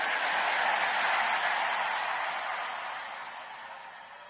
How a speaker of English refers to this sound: Give the Lord a bigger, bigger clap and a louder shout of praise. Maybe you will stand up on your feet and do that shout and clap louder.